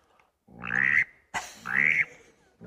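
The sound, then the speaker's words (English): A mallard drake calls twice, each a loud, raspy, nasal grunt about half a second long with a brief pause between, with no talking. It sounds rather like a frog. “And the mallard drake is like this.”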